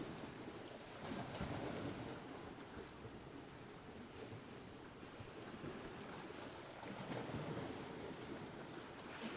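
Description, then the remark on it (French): Steady surf washes against a sandy beach with black rocks, with swells rising and falling in a continuous roar, and gusts of wind buffeting the microphone throughout. No voices are heard. “De petites barques à tête de monstres rouges et bleus se bercent au gré des vagues.”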